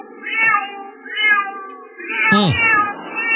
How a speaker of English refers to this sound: Let's hear from my cat. What up, Luna? How you doing, baby? You doing good? God, he's so freaking cute.